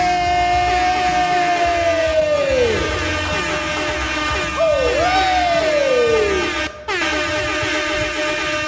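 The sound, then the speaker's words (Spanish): A loud, continuous burst of audience cheering and applause for a performer being introduced on stage, dominated by blaring air horns with sustained tones that slide down in pitch, with crowd noise filling the background throughout. “Fuerte aplauso para Jade”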